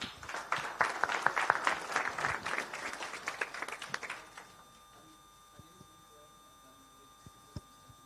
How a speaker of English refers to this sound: Yeah, let's give him an applause.